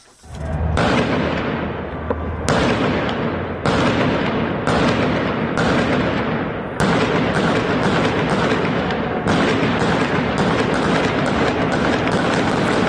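Loud, dense bursts of gunfire in a video from the Punak neighbourhood of Tehran, where large crowds were gathering. The shots crackle almost nonstop over a harsh background roar, with a couple of sharper, louder cracks standing out; no voices are heard.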